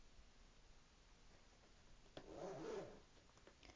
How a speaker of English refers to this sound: Make sure to zipper it shut behind you, dear.